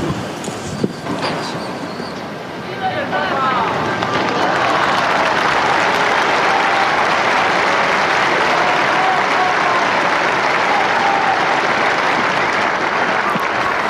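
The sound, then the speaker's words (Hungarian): Loud crowd applause after a papal blessing, thanking the Pope, builds over the first few seconds into a dense, steady roar of clapping that holds at full strength, with faint cheering voices of many young people mixed into the wash. “Ma sem marad el a szokásos taps és a Szentatya köszöntése, az ő szavainak, az ő áldásának a megköszönése, és talán mivel hallottuk, hogy sok fiatal van, ugye ők is hallatják a hangjukat, lehet, hogy ezt még hallják a kedves hallgatók is”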